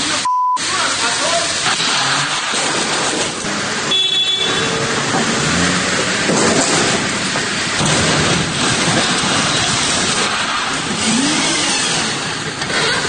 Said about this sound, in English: In trying to get away, he hits not one, not two, not three, not five, but six other cars trying to get off the street, and the whole thing is on film. And even from like 40 feet away, this is what it sounded like.